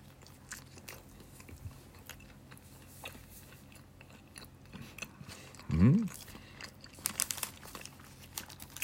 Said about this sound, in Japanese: はい、いただきます。咀嚼音がしますんでご注意ください。